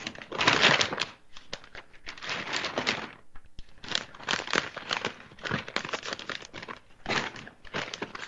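A newspaper is crinkled and ruffled, the crinkling newspaper sound from Limbaugh's shows, in irregular bursts of dry, crackly rustling, loudest at the start, with short pauses between handlings and no voices.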